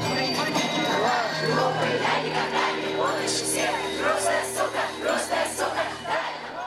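A large crowd chants in unison, a loud, rhythmic wall of many voices repeating a short phrase over and over, with steady low hum and faint bright tones running underneath.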